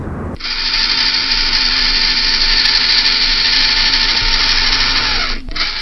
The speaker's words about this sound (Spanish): Y estos sonidos chirriantes son o eran producidos por los motores y diferentes partes móviles del rover Spirit, uno de los dos exploradores robóticos de Marte.